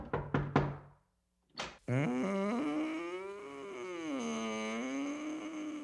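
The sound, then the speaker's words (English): Three sharp knocks on a door ring out in quick succession, followed by a brief pause, a dull thump, and then a drawn-out, wavering voice of a woman answering that carries to the end. “And we hear the knock on the door and the woman answering.”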